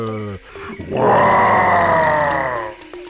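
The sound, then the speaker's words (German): A short growl rises into a loud, sustained lion roar lasting about two seconds, then fades out. It sounds alone, with no talking. “Ich bin ein Löwe.”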